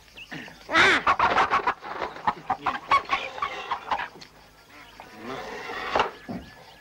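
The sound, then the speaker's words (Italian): Several chickens cluck in a busy, overlapping stream of short, sharp calls, loudest early on, then continuing more irregularly with scattered clucks and squawks. “Disgraziati, fanno fare alle galline le uova di marmo per non lasciarle bere a noi.”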